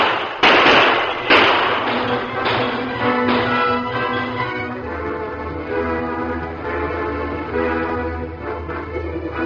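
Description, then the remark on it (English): Two sharp, loud gunshots crack out early during a train holdup by masked men, followed by a few fainter pops over a steady low rumble and a murky, humming background that carries on to the end. “Use your gun.”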